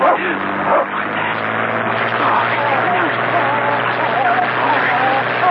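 Several dogs bark and yip over one another in a dense, continuous chorus. The barking is loud and never lets up across the few seconds.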